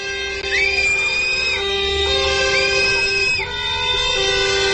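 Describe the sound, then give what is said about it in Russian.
Loud, steady crowd noise of protesters at a rally against a new state program for monitoring working conditions: shrill whistling, shouting and blaring horn-like tones, with two long rising whistle blasts standing out over the continuous din. “Вот так свистом и криками митингующие выразили свое отношение к новой государственной программе мониторинга условий труда.”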